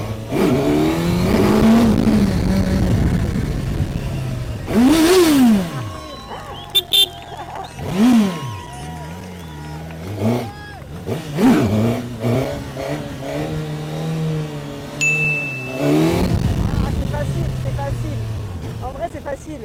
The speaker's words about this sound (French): GSXS 1000, c'est un bijou le moteur. Oh là là, c'est d'une puissance et d'une douceur en même temps, je sais pas comment dire.